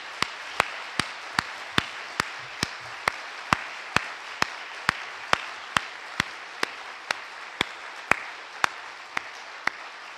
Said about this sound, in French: Alors, bon, j'aimerais quand même d'abord que vous l'applaudissiez très fortement pour tout ce qu'il a apporté à ce collège.